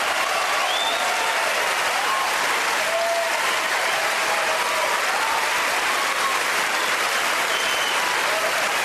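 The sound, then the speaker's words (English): Loud, sustained applause from a large audience at the Oscars as the award goes to Roman Polanski for The Pianist fills the whole stretch, a dense steady wash of clapping with scattered cheers and whoops rising above it. “That's the loudest applause I've ever heard at the Oscars for Roman Polanski”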